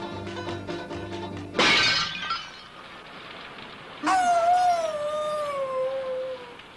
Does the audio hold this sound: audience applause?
no